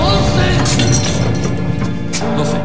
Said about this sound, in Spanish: La duodécima, el sonido de la duodécima campanada, queda ahogado por un disparo. Al lado de la puerta, una mujer, la mujer del escultor, sostiene una escopeta.